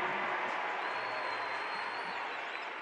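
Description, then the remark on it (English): A steady wash of crowd noise at a basketball arena during a Jazz vs. Pelicans game fills the whole stretch, a dense roar of cheering and clapping urging on the Jazz, with a faint high whistle drifting through, holding at an even level without any single voice standing out. “The crowd is egging on the Jazz to play with a little juice.”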